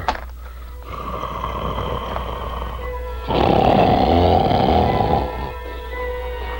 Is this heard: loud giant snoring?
yes